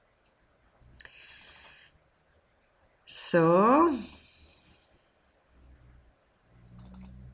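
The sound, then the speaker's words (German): Bursts of quick, light clicks on a laptop come in short clusters, separated by pauses, with a brief spoken word in the middle. The clicking is soft. “habe ich gar nicht das Produkt auf dem Laptop aufgeschaltet, weil ich möchte Ihnen einiges sagen. Und jetzt klickt es halt nebenbei”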